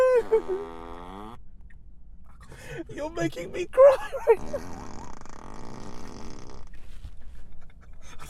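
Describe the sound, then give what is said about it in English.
A long, drawn-out fart with a wavering, buzzy pitch sounds loud at the start, followed by people talking and laughing over a faint rumbling hum. “Stop the fart.”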